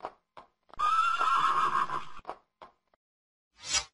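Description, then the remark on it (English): A horse neighs loudly in one long, shaky whinny lasting over a second, followed by a few short snorts and a final breathy exhale. No one speaks. “H, horse. H sounds h as in horse.”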